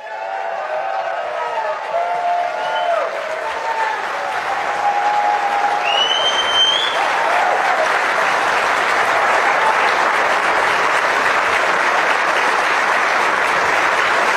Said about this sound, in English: Lots of applause there. Big applause line.